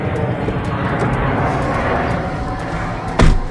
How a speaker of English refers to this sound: I mean, because, you know, sorry, airplane.